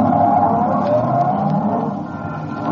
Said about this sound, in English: My cab is waiting. Won't you step in? All right, driver, to the little theater.